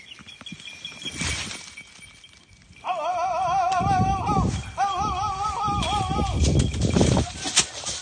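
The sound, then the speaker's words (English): A falconer's call signaling to a hunting hawk that a gray squirrel is getting away: two long, loud, warbling cries with a rapidly wavering pitch, each lasting over a second, separated by a brief pause, over rustling and crunching footsteps outdoors. “That's a typical sound a falconer makes to signal to their hawk that an animal they're hunting is getting away.”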